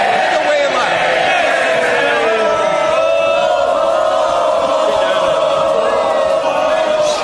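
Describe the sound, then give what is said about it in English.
Members of parliament shouting together, a loud, unbroken roar of many overlapping voices jeering and calling out, holding steady for the full seven seconds with no single speaker standing out. “Well, yeah, they're shouting more, but don't hold your breath.”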